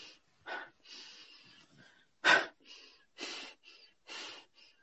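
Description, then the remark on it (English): A person breathes rapidly and forcefully through the nose and mouth, a series of sharp, rhythmic huffs and gasps with no talking, demonstrating how their body breathed while surrendering in practice. “Because then I would sit there and my body, if I was surrendering, my body was breathing like this.”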